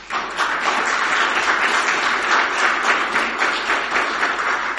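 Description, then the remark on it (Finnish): A church audience bursts into sustained applause to encourage the young people who serve at Sunday services, a dense wash of many hands clapping at steady loudness for several seconds, with no voices standing out. “Kyllä meidän tulisi antaa raikuvammat aplodit joskus rohkaisuksi, eikö vai?”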